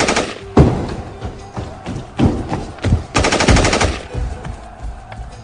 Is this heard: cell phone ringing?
no